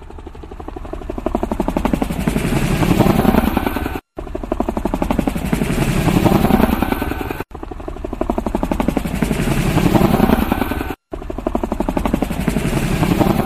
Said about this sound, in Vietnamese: Những chiếc trực thăng bay tới với tốc độ mau hơn.